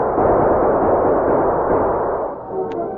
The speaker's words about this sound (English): The sheriff and his posse galloped into the gunfight, firing as they rode. For a few moments, the outlaws battled furiously.